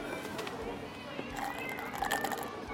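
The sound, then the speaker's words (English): A cat meows a few times in short, rising-and-falling calls, clear, over a steady hiss of background noise. “Finally, some peace and wine. At least the cats get us.”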